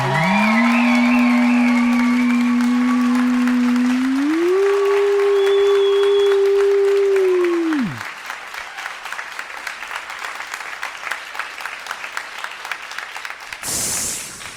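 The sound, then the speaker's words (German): A crowd applauds steadily throughout for a contestant, the aquarium club and the fire brigade, with dense clapping. For the first eight seconds a loud sustained electronic tone sounds over it, stepping up in pitch before abruptly dropping away. “Und jetzt euer Applaus für”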